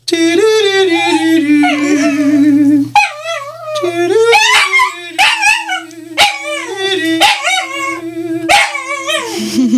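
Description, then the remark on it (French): A dog howls and yips loudly in wavering, drawn-out tones, singing along with a person's sung notes, with brief breaks between the long phrases. “parce que quand je chante, vous savez, quand je donne mes cours de chant, et même quand je fais mes concerts, mon chien chante avec moi.”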